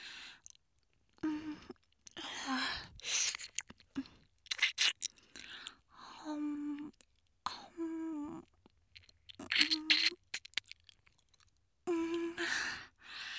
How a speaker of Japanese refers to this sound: こうやってお耳の外側のコリコリしたところを子猫みたいにペロペロ甘噛みすると、もう病みつきになっちゃうよね。